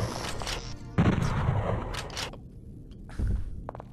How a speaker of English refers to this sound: Okay, the idea was to capture the thing's death scream so that you could hear what it sounds like, but the freaking bolt gun drowned it out.